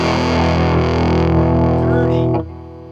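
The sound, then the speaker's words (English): A thick, buzzing fuzz-box guitar distortion drones loudly and steadily, dense with harmonics, then drops off sharply near the end into a lower, thinner sustain. “That's dirty, dirty fuzz box.”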